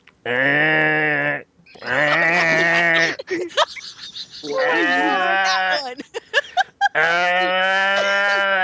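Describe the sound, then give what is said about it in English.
Voices imitating seals: four loud, drawn-out, nasal bleating calls with a wavering pitch, separated by brief pauses filled with clicks and snorts. “It was a track with seals making sounds.”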